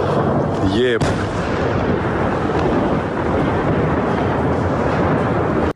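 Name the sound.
explosion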